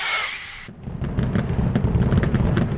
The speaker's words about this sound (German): Krönender Höhepunkt am Jahresende ist das Feuerwerk am Strand. Kilometerweit zu sehen mit seinen tausenden Lichtern, die sich in der Ostsee spiegeln.